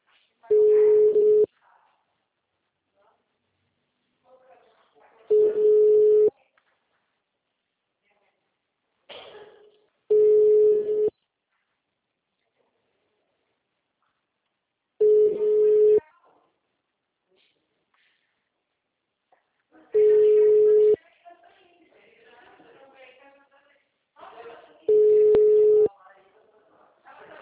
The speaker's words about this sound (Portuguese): Chamada sobre o ocupado.